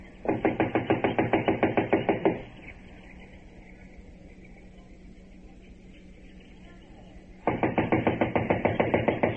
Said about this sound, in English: I'll knock.